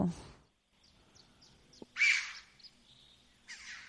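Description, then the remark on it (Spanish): Chough calls ring out as a series of short, high chirping notes, with a louder squealing call near the middle and another at the end, over a quiet open background in a clear, open area at Alalar. “¿Una choba?”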